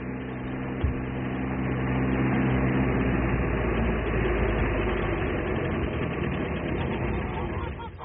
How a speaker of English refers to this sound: Mary, listen. What is it? It's a car. It's him!